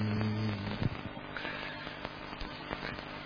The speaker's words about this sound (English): Gong.